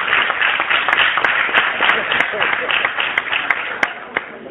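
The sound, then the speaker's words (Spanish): An audience applauds steadily for several seconds for a reader who is about to read a text, a dense wash of many hands clapping with a few sharper individual claps standing out near the end. “Un aplauso para él.”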